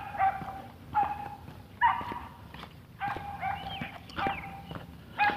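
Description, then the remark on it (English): A small, excitable, collie-looking Shetland sheepdog, about 2.5 times the size of a Chihuahua, barks at a person in a rapid run of sharp, high-pitched yaps, about eight in a steady rhythm, moderately loud, with no talking. “It's a little, I want to call it a Sheltie. It's a little collie looking dog.”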